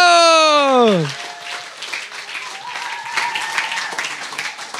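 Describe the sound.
A falling musical swoop opens, then an audience breaks into steady, dense applause welcoming two guests, a couple who will answer questions about their lives, that carries on to the end, with scattered voices and cheers mixed in.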